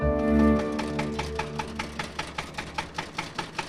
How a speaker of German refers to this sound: Mit dem Trecker.